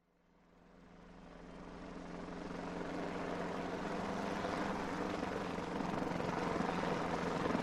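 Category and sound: vehicle, helicopter flying low overhead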